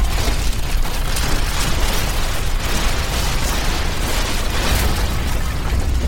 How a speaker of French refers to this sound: Trop tard ! Trop tard ! Le bâtiment s'effondre sur eux !